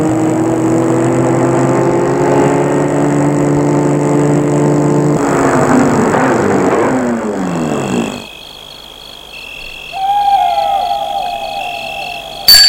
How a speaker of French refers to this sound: Gilbert va arrêter sa voiture devant l'entrée.